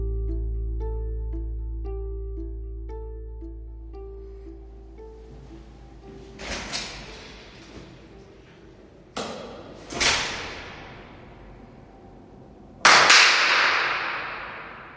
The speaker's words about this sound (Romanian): Cam așa sună o aulă universitară ca cele ale Universității Agrare, adică o aulă pustie.